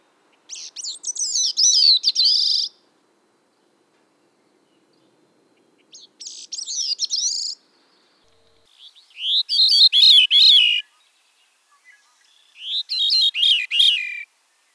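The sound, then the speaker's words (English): Four separate bird songs, each a few seconds long with pauses between: two Bicknell's thrush songs, high and thin, then two veery songs, fuller, with downward-spiraling phrases. No talking, clear. “Now you'll hear two examples of a Bicknell's thrush song followed by two examples of a veery song.”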